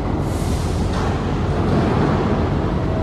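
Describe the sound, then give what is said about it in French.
A dense, steady industrial roar of heavy engines at a terminal, with metallic crashing and screeching, a deep rumbling low end, broad noisy clatter layered throughout and no clear pauses, holding at a constant loud level. “Des fracas métalliques. Des crissements. Des moteurs.”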